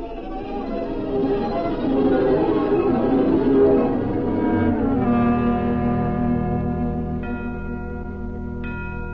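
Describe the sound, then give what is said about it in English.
Bells ring together in a fairly loud, shimmering wash, then settle into long, sustained tones that hang in the air, with one more bright chime near the end. “what are those bells?”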